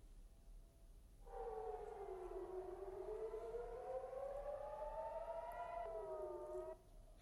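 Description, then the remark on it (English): A loud air raid siren wails continuously in Tel Aviv and other areas after a ballistic missile strike from Yemen, its tone rising and falling slowly in long sweeps, with a second overlapping siren layer and a low outdoor rumble beneath; no voices. “Sirens have sounded in several areas of the occupied Palestinian territories, including Tel Aviv, following a fresh missile strike from Yemen.”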